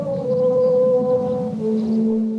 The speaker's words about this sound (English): you may have heard of an outdoor sculpture called a Sound Garden on the shore of Lake Washington. It's a cluster of metal towers and tubes, and on windy days, they sing and they moan. Here's a YouTube recording from a few years ago.